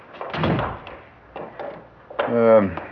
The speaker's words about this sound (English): I just press the button. The door operates electronically.